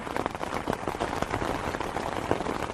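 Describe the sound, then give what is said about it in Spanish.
Steady rain pattering down on a livestock farm where a large holm oak gives slight cover, a dense continuous hiss of drops with small irregular taps throughout, moderately loud, with no voices. “Cuando llegamos a la explotación nos recibe una enorme encina que permite que nos cubramos ligeramente de la lluvia o de la xoiva, como la llaman por aquí.”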